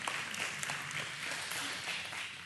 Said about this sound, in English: You can clap for that.